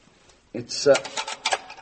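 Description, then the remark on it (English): A key kept by the door scrapes and turns in the stiff lock of a door leading further down: a run of metallic clicks and rattles with a couple of sharper clacks, starting abruptly after a brief silence. “We have to go down even further than we are, though, and to do that, I must unlock this door. We keep the key here.”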